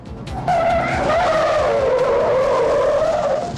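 A loud, sustained tire screech as a car overtakes cyclists and skids, pulling right in front of them, the high wavering squeal holding for about three seconds over rumbling engine noise, with no voices.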